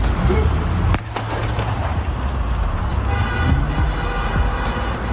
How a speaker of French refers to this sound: On voit la voiture qui démarre, les deux agents qui s'en écartent, et en moins d'une seconde, le policier proche du capot tire sur le conducteur.